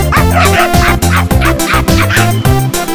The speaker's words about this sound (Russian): Девушка, посмотрите, какая у меня мохнатенькая собачка.